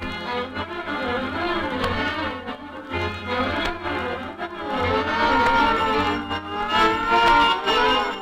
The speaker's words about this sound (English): The shriek of sirens, the clanging of bells, huge red trucks tearing down the street. City dwellers are accustomed to such demonstrations of speed used to combat the demon fire.